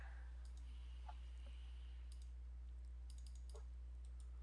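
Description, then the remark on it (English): Several quiet, sharp computer mouse clicks scattered irregularly over a few seconds against a steady low hum, with no one speaking. “I gotta stop clicking stuff. Have you just been wildly clicking?”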